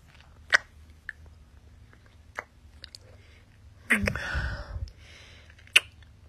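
Neck kisses from behind: several sharp, wet lip smacks at irregular intervals, with a longer breathy, rustling stretch midway. Moderately loud, with no talking.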